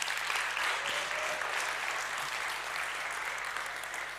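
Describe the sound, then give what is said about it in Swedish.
An audience applauds its hosts steadily for several seconds, a dense, even patter of many hands clapping at once with no voices standing out, fading slightly toward the end. “Ni kan ge en applåd till våra värdar, de är underbara.”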